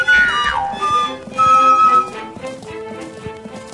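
Horse hooves clip-clop at the Lipica stud farm (Kobilarna Lipica) in a steady, repeating rhythm of sharp knocks, heard over a sustained tonal background with a brief high, whinny-like sweep at the start.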